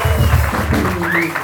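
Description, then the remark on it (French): An audience applauds loudly and steadily for a second and a half, a dense wash of clapping, with a brief rising whistle-like tone cutting through near the end. “Applaudissements.”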